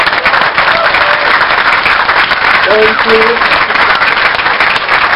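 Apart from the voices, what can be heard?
audience applause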